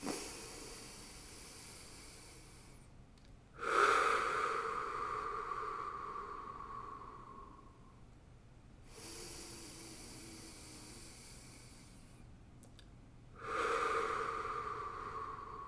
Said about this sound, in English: Let's take three breaths just in that state of oneness, breathing with all the other beings on this planet. Ready? Inhale through the nose.